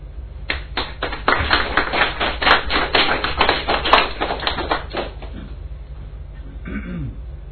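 An audience at a poetry reading breaks into applause between poems, dense overlapping hand claps that swell quickly, hold steady for several seconds, then thin out and fade to a few scattered claps.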